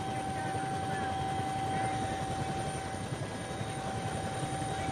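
A helicopter's rotor and engine roar steadily from inside the cabin as the pilot tries to set down on a narrow island strip about 20 to 25 feet across, a loud continuous drone with rapid low thumping pulses and a constant whining tone running underneath.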